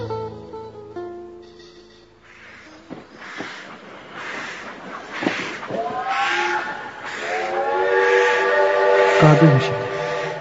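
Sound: train whistle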